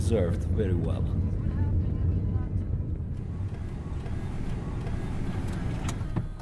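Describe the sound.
A car drives along with a steady engine rumble and road noise that holds for several seconds, with muffled voices briefly audible near the start. After nearly two hours of driving, it parks in front of long cow sheds, barns and silos, beside a jeep.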